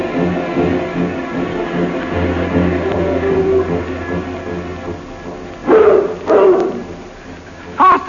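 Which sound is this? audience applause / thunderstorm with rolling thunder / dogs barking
dogs barking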